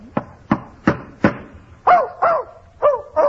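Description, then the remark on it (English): A dog, Fletcher, barks eight times in quick succession in a hotel: four short, sharp barks evenly spaced, then four higher, yelping barks, fairly loud with no one talking. “Oh, look, I hate to interrupt these mental acrobatics, but if Mr. Burke, the manager of the hotel, finds that dog in here, you're going to be in trouble.”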